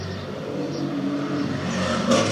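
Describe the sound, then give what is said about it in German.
A car engine drones steadily at moderate volume, rising slightly toward the end as the vehicle passes along a residential street with light traffic, heard from a balcony in fine weather, with no voices. “Ich wohne hier an der Straße, aber es kommen nicht oft viele Autos.”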